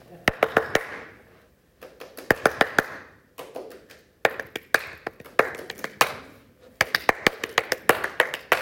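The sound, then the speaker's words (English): Hands clap out the rhythm of Beethoven's Fifth Symphony: crisp, sharp claps in short bursts of three or four, separated by brief pauses, with the pattern repeating several times. “going to clap a well-known rhythm, see who the first person is to get it.”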